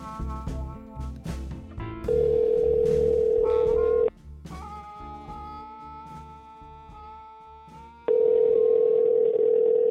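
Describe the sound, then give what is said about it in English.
A phone line rings out with two long, steady ringback tones a few seconds apart, loud, while soft tonal music plays underneath between the rings. “We talked over the phone.”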